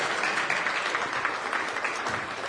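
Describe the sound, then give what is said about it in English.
A crowd applauds steadily, a dense, even wash of many hands clapping at once that holds at a constant moderate loudness throughout, with no voices standing out. “Let's give her a round of applause as she sits down.”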